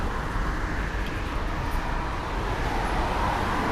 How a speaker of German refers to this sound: Wenn gerade Autoverkehr ist, versuch dich mal mit dem Ohr an die Autos einzuhängen. Okay. Ja, dass du versuchst, parallel da mitzugehen.